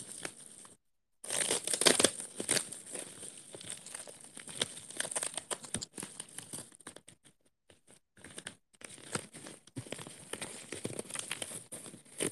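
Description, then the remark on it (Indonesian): Continuous crinkling and rustling of plastic packaging being handled while packing, with irregular crackles and short scrunches, a few brief pauses, and no talking. “Tuhan, astaga, sumpah ya aku nggak jago banget buat ini yang apa ngepacking, nggak bohong, jelek banget anjir.”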